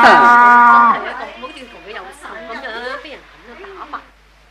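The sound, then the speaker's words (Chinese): A sturdy cow being led along lets out one loud, drawn-out moo lasting about a second, and then a person starts talking while the animal falls quiet. “老爷老爷老爷，我就系讲呢只牛啦，系咪好壮好粗壮咧？”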